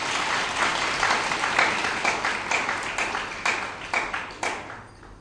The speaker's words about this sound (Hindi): ताली बजाइए इस बार।